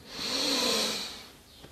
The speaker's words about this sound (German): Wir nehmen jetzt gemeinsam einen tiefen Atemzug und atmen ein.